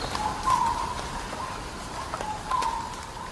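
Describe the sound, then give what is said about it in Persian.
Amazon rainforest ambience: a steady hiss of insects or rain fills the background while short bird calls rise above it twice, with a few faint chirps scattered between. “برای اینکه بهتر بفهمیم تجربه آمازون چی بوده، از دو تا از دوستامون که آمازون رو تجربه کرده بودن از نزدیک و با چشم خودشون این انبوه سبز زیبا رو دیده بودن، ازشون خواستیم که برامون یک تکه صدا بفرستن.”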